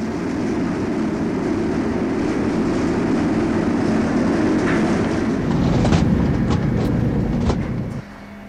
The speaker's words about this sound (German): Das ist der Lärm in unserer Kabine, eine Etage unter dem Flugdeck.